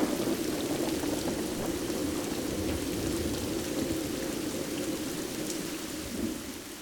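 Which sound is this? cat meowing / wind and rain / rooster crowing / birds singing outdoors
wind and rain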